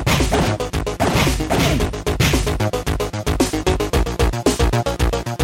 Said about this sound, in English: All right, that's some real punching.